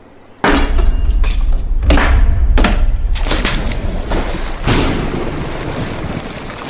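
Several heavy, forceful axe blows strike a strong wooden door to break through it, with sharp cracking bursts, about five blows at irregular intervals, each followed by a ringing, rumbling decay. No one speaks.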